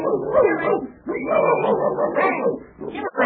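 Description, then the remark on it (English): A dog barks loudly in a rapid, agitated run of bow-wows mixed with higher yips and whiny notes, with only a brief pause partway through. “I'm getting out of here. That dog is coming.”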